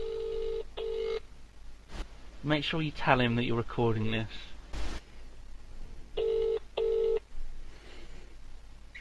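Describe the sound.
Electronic phone tones sound in pairs of steady beeps at the start and again near the end, like dialing followed by a ringing tone, as a phone call is placed live on the Yogscast, with a man and a woman talking between them.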